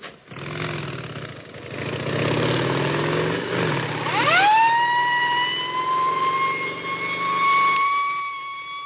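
Motorcycle engines rumble, then a siren winds up and holds a loud, steady wail over the engine noise as a motorcycle escort rolls along to LaGuardia Airport, New York, escorting a shipment of cholera vaccine in October 1947.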